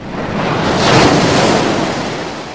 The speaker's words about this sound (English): the crest of the Smooze wave broke over her, dragging her into the ocean of Smooze as she cried out for help.